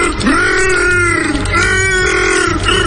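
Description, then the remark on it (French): A loud alien creature growl identified as Chewbacca: two long, wavering, throaty howls with a rough, moaning tone, separated by a brief break, with no talking over them. “Un oiseau? C'est Chewbacca.”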